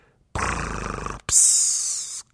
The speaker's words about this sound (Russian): Пр-пс-кр-рах. Вроде все как надо. Но потом дяде Юлиусу приснился, видимо, кошмар, потому что его храп стал звучать так жалобно. Вместо протяжного «пссс».